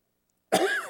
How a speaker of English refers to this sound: coughed in it, may have lost some fluids into it, and then died.